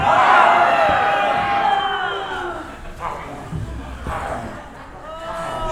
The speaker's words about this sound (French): Je veux entendre un cri général.